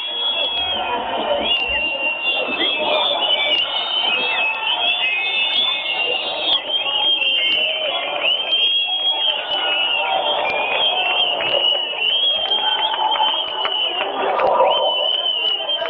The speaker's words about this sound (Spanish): Mira, queríamos que escucharais el sonido de la manifestación de fuera, ya que por las paredes no podéis. A través del teléfono, que escuchéis el sonido en directo de la manifestación. Escuchamos ese sonido, compañeros.